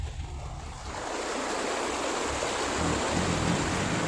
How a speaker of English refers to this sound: That was a bit deeper than I thought it was. My car is so low. It's been lowered and, fuck yeah, it barely makes it out of the river crossing because it's been raining.